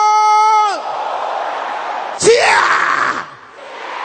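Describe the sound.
A group of voices shouts loudly together, opening with one sustained, strained cry and then swelling into a noisy, overlapping roar of many people.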